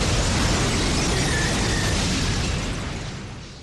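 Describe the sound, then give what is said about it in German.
A loud bomb blast at the top of escalators leading down to a basement erupts as a dense, roaring burst of noise that rumbles on for a few seconds before slowly dying away. No one speaks. “Bombe detonierte am oberen Ende der Rolltreppen, die in das Untergeschoss führten.”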